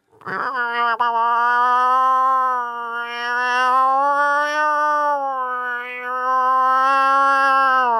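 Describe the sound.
A person imitates a cow moose call: a single long, nasal moan held steadily for about eight seconds, wavering slightly in pitch, loud and with no other sounds.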